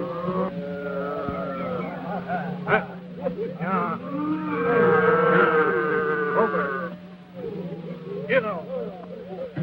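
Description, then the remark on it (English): Cattle low and moo in drawn-out, wavering calls over a steady background rumble, several animals overlapping as the herd is driven along by rustlers. “The rustlers continue moving the cattle.”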